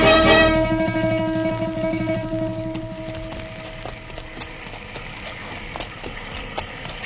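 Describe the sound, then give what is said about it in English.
Horse hooves clip-clop in a steady, unhurried rhythm as Mr. Dillon and Chester set off on their horses in the rain on the frontier, following a sustained musical tone that fades out over the first few seconds. No one speaks. “Come on, Chester, let's find our horses.”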